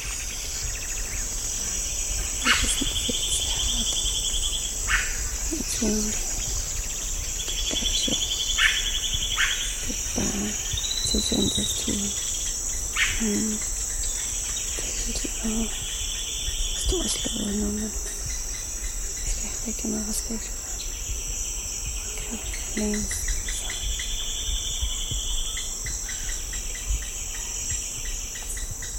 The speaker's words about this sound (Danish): Det er tidlig morgen, og jeg går alene med min mikrofon inde i regnskoven, midt i verdens største biodiversitet. Der er så mange lianer og klatreplanter og alle mulige planter, jeg aldrig har set.